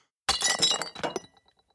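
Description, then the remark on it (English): A crown in a purple bag drops from a counter and breaks on a stone floor: a sharp crash followed by a rapid burst of bright, glassy shattering and clinking that trails off into a few faint tinkles. “The bag with the crown fell to the stone floor.”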